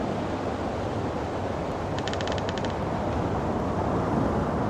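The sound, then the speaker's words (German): A steady, dense roar of raging ocean waves surging and churning against a raft made of beams, with a brief burst of sharp, rapid creaking clicks around the middle. No voices are heard. “Du gibst erst Ruhe, wenn die Wellen mich verschluckt haben.”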